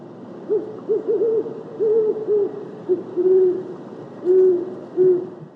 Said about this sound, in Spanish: Búho cornudo.